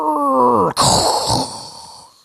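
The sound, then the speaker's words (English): A voice mimics a sci-fi holodeck door opening: a rising hummed tone that cuts off abruptly into a long breathy whoosh with a high whistle, gradually fading out. No words are spoken. “I would do mine like the holodeck door, which was like a...”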